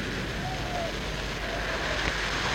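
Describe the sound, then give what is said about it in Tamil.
Heavy rain pours down amid a churning rush of floodwater, the great flood over the earth in the story of Noah's ark, a loud, dense and unbroken wash of noise that holds steady from start to finish. “ஐயோ, அப்போது பூமி எங்கும் பயங்கரமான பிரளயம் பிரவாகித்தது, பெரும் மழையும் பெய்தது.”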